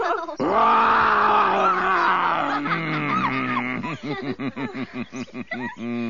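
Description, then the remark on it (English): A loud, drawn-out lion's roar voiced by a person, rising and swelling for several seconds before breaking into a rhythmic series of short, throaty grunts that fade out. “I feel I'm going to roar. You'd better put your fingers in your ears.”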